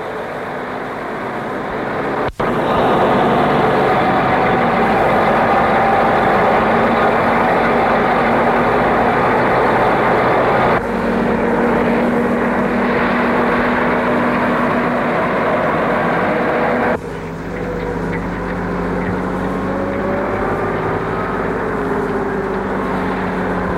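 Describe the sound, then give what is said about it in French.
A steady, loud low rumble of a moving truck's engine, droning continuously with a couple of abrupt shifts in tone, with no voices present. “Il est tombé du premier étage sur le toit branché d'un camion qui roule.”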